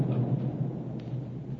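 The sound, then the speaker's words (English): A low, muffled explosion on Galto Island, off starboard, rumbles steadily for under two seconds, a deep continuous roar with a heavy bass hum and no voices. “What was that? Sounded like an explosion, it did, sir.”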